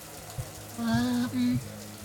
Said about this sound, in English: I guess I should follow the sound of the water. There's the showers.